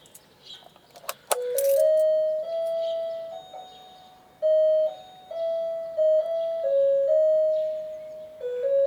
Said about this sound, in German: Das wohl schlimmste Geräusch hier ist die Klingel. Wer schafft sich bitte eine Klingel an, die einem bei jedem Besuch einen fürchterlichen Ohrwurm verpasst?